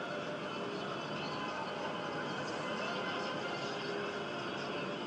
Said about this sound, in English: I don't know if you can hear this traffic noise right now.